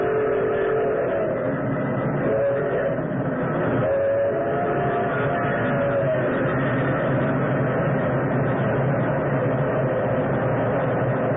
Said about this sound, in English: Like an incredible, fiery-eyed monster, the express engine roared out of the tunnel mouth.